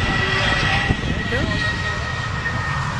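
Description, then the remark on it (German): A steady, broad roar of a jet airplane engine in London in the evening light, loud and continuous, with faint voices murmuring underneath. “wie findest du, irgendwie hat er gerade ein Flugzeug da gesehen, das ist doch amazing or not?”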